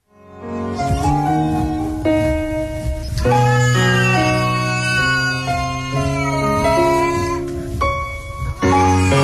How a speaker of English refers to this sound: Now, if you're curious, that's a howling cat that he took and turned into a sad song